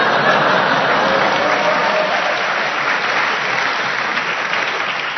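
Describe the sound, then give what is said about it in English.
Loud, steady audience applause, a dense wash of many hands clapping that holds evenly for about five seconds, with no voices standing out above it. “The audience applauded them”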